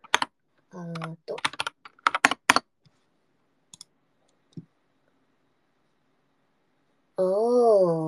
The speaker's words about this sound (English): No! Japanese typing, please!